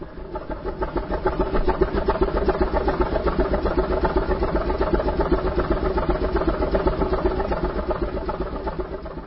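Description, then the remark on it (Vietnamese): The heavy engine of the Cần Thơ–Mỹ Thuận ferry chugs steadily as it carries people across from the Hậu Giang region, its low, rhythmic throb holding a constant pace throughout with a faint vibrating rumble and no voices. “Chiếc phà Cần Thơ Mỹ Thuận xình xịch đưa từng dòng người lên xuống từ miền Hậu Giang.”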